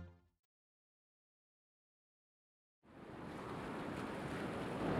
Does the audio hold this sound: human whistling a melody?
no